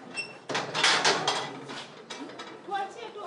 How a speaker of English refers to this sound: The prison gate creaks slowly open